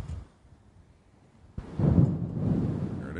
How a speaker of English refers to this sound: It's one of those deals where it's like pitch black on one side and absolutely real light bright on the other. Yes. We should hear some thunder now.